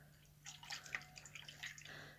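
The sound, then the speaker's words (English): A hand swishes through running bath water to check it, producing soft, irregular splashes and drips. It is quiet, with no voices. “Let me check the water first, honey.”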